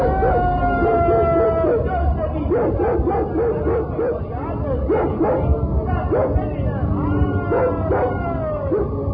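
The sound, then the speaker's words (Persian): Dogs bark and yip excitedly in rapid, overlapping bursts, with occasional howling whines, loud throughout over a dense, noisy background; a dog suddenly attacking people. “در همین هنگام بود که ناگهان سگی به ما حمله نمود.”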